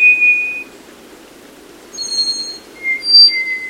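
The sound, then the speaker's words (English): A slate-gray black-faced solitaire, moving furtively in the dense understory of a wet mountain forest in Costa Rica, sings a few long, pure, whistled notes at different high pitches, steady and ringing, some overlapping like chords, with brief pauses between phrases over a soft low hiss. “In wet mountain forests of Costa Rica, a slate-gray bird sings as it moves furtively in the dense understory. It's the black-faced solitaire.”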